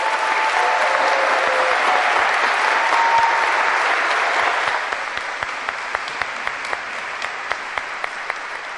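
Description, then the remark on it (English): A church audience breaks into sustained applause for a member turning 92 on Halloween, a dense steady wash of clapping that thins out after about five seconds into scattered, distinct individual claps. No one speaks. “When someone is 90 or more, we feel like we have to clap for them.”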